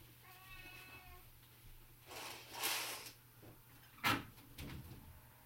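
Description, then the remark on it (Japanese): A cat lets out one drawn-out, fairly quiet meow, followed by a few short rustling and knocking noises; no one speaks. “うわー、もう本当に猫泣くな。 なんでこんなことを言ってるのに泣くのだ。”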